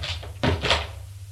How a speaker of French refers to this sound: Il ferme la porte.